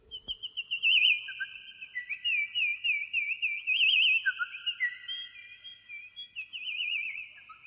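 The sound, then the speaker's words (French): An ondes Martenot imitates small birds with high, pure warbling tones, quick trills and chirps over several overlapping lines, playing alone, continuous and fairly loud for about eight seconds. “L'instrument est capable d'imiter, entre autres, les petits oiseaux.”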